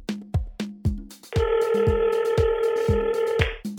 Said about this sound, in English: Oh, I think the phone is ringing. Can somebody, that's probably a listener. Can somebody pick up?